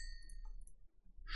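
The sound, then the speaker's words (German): A glass clinks with a short, bright ringing tone while it is picked up, followed by a brief rustle of handling noise. The sound is fairly quiet, with no voices. “Achso, das Glas können wir noch mitnehmen.”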